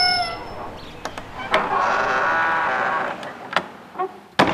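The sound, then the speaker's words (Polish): A museum gate creaks open in a long, drawn-out, wavering squeal, framed by sharp clicks and metallic clunks, with a final loud knock as it shuts. “Tuż za skrzypiącą bramą wita nas pani”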